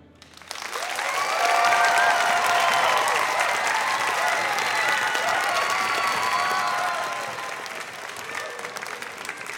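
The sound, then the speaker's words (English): A live audience of energetic children and adults applauds enthusiastically at a Circle Round (WBUR) story performance at Tanglewood with musicians from the Boston Symphony Orchestra: a dense, steady wash of clapping with some high excited voices mixed in, swelling quickly and holding before easing off near the end. “from the Boston Symphony Orchestra, an all-star cast, plus, as you'll hear, a fantastic audience of energetic kids and grown-ups.”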